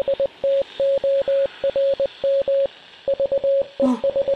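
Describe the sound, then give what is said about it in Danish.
Steady telegraph beeps tap out Morse code, a single high-pitched tone switching on and off in short dots and longer dashes with brief pauses between groups, over a faint hiss. “Telegrafen. Det er lidt som en meget simpel telefon, hvor kun bip-lyde kan komme igennem.”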